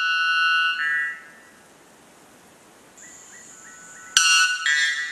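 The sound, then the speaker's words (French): A white bellbird (araponga blanc), a white, dove-like bird of about 250 grams said to have the most powerful call in the world, gives loud, metallic, ringing calls: a sustained harmonic note, a softer stretch of faint chirping tones, then a sudden explosive blast followed by another strident note. “Il s'appelle l'araponga blanc.”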